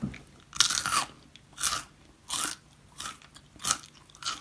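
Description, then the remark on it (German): Someone bites into a crunchy snack and keeps chewing, producing about six crisp, bright crunching bursts at a steady chewing rhythm, with no talking. “Oh, knackt aber lange.”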